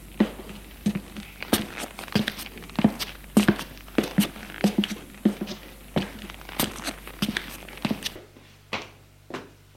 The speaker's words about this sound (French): Et il monte les escaliers de bois poussiéreux.